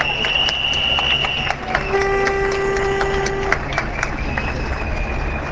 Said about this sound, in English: Now I'm listening to these helicopters clattering away above us.